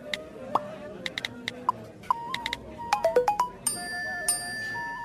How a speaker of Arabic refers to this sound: واصلني إشعار من الهيئة، خلني أشوف شو الموضوع.